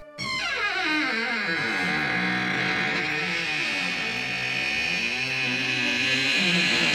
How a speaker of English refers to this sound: That was a creaking door.